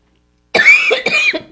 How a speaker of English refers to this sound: Pardon my cough.